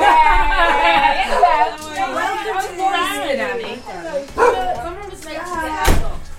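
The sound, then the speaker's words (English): A dog barks in a few sharp bursts amid lively, overlapping voices of people greeting each other. “Bloody dog.”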